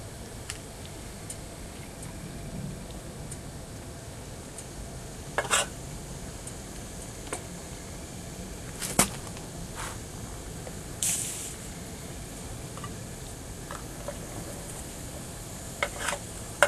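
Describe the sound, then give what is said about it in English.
Snow sizzles underneath a hot metal muffin pan with a steady hiss, broken by a few sharp crackles and pops scattered through it. No one speaks. “Ooh, hear that sizzle. That's the snow underneath the muffin pan.”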